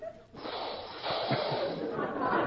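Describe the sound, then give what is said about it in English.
A person imitates a snore through one nostril as the snore of a character named Rip, a steady, raspy, hissing nasal rush that starts abruptly and holds at a fairly loud, even level for about two seconds. “I want a snore, not a dive bomber.”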